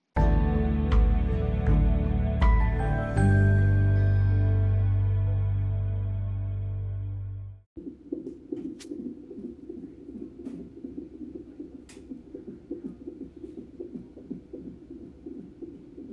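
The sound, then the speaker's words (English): A baby boy's heartbeat on a heart rate monitor, his heart rate accelerating: a loud, muffled droning swell gives way to fast, steady whooshing pulses with faint ticks, alone without any talking. “having his heart rate being monitored”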